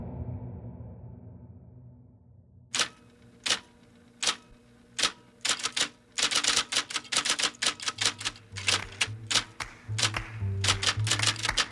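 Typewriter keys clack in an uneven rhythm, starting with sparse single strikes and building into quicker bursts, with low mechanical thumps joining toward the end; no one speaks.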